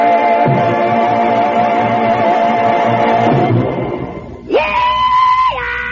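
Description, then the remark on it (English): A loud, sustained whooping rebel yell, done by a radio host to kick things up, holds for a few seconds, then breaks and rises into a second high, piercing whoop that drops off near the end, with no talking. “I'm just doing a rebel yell here to kind of kick things up.”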